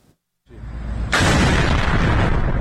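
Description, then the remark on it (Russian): After a moment of silence, a deep rumble swells, then a loud explosion erupts and keeps roaring as a harsh, sustained blast, with no voices. The explosions are from an attack on a military plant in Isfahan, Iran. “Яркие взрывы и поврежденная крыша здания – это практически все, что достоверно известно об атаке на военный завод в Исфахане.”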